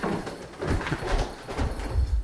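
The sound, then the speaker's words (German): Heavy footsteps thud steadily down creaking wooden stairs inside a grain mill, going one floor lower: a series of hollow steps at an even walking pace, with faint creaks of the boards between them and no one talking. “Über knarzende Holztreppen.”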